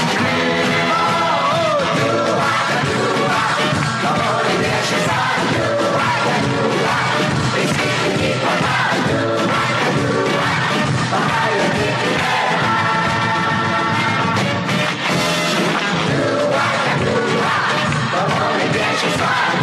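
A large crowd yells and roars together in a dense, sustained wall of shouting, loud, rising in rough bursts like a rallying battle cry throughout.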